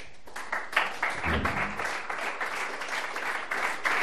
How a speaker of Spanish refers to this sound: Bueno, pues aplausos de quienes les estaban escuchando